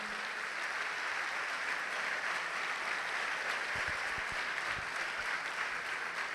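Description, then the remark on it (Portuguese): A church audience applauds the Lord together, a dense, steady wash of many hands clapping that fills the room for several seconds at an even, sustained level, with no one speaking over it. “Vamos aplaudir ao Senhor por isso.”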